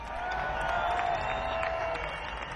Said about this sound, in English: Let's have a big round of applause on the lead vocals and lead guitar,